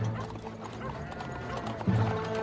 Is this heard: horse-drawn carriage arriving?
yes